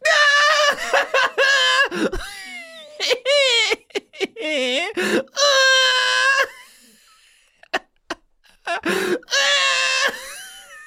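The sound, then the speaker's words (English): A person lets out a series of loud, high-pitched screams and squeals in choppy bursts, separated by short breathy gasps and brief pauses. “You're screaming.”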